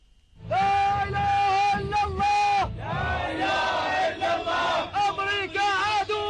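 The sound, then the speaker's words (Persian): A large crowd of Iraqi mourners chants slogans in unison at a funeral procession in Baghdad for four Popular Mobilization fighters killed in a US airstrike: loud, sustained rhythmic shouting in repeated bursts, many voices rising and falling together. “این فریاد خروشان مردم عراق است در مراسم تشییع پیکر چهار شهید جنایت تروریستی آمریکا.”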